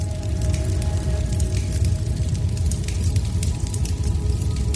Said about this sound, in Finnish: Vai kenties takka tuli?